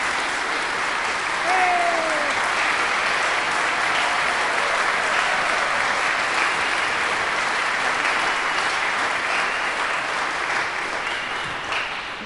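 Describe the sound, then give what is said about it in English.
A church audience claps steadily for about twelve seconds for a member who has turned 92, the applause full and sustained, with a faint whistle or cheer rising briefly near the start before tapering off at the end. “We have a member of the family of God who has turned 92, and I think that if someone is 90 or older, they deserve some applause, don't you?”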